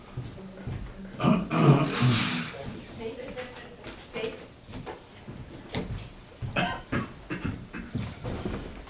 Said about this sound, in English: No, I don't have a cold. Cough.